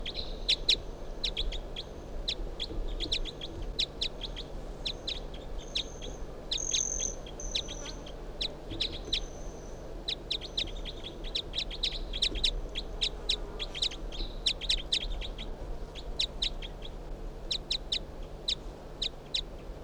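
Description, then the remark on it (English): A bird calling in response to another bird just brought out: repeated high chirps and short calls at a steady, rapid rhythm, with occasional longer whistled notes, over a constant low hum and an insect-like buzz. “So recording 361 in response to bird 362, who I just brought out here.”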